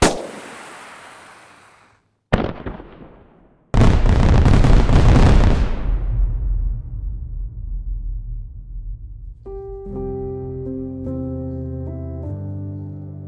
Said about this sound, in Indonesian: Kalian bilang bahwa kembang api adalah upacara rekapitulasi.